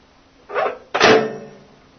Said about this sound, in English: Close my door back up.